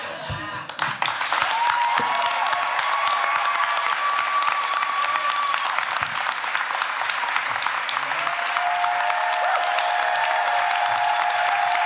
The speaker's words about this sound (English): John Hodgman, everybody. Please give a round of applause to all of our wonderful actors.